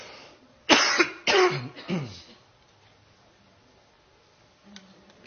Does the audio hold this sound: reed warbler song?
no